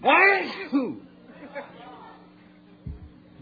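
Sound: sneeze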